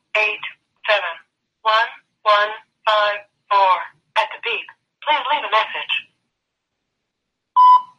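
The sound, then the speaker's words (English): A clipped, automated-sounding voicemail greeting voice reads out a string of separate digits in an even rhythm, followed after a short pause by a single loud, steady voicemail beep. “at the beep. Please leave a message.”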